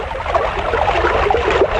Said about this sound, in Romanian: Aoleu, aoleu, a năvălit apa. A sfârmat roata morii.